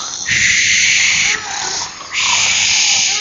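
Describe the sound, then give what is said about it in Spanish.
A voice imitates a wolf snoring with two loud, raspy, breathy snores, one after another with a short pause between, with no talking. “Y el lobo, al echarse a dormir, ¿qué es lo que empezó a hacer? Empezó a roncar. ¿Cómo roncaba?”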